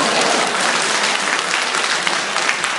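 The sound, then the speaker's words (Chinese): A crowd claps steadily throughout to welcome an imitation of smog, a dense, even wash of applause from many hands with no pauses and no voices standing out. “哎，大伙儿来鼓掌看雾霾的。”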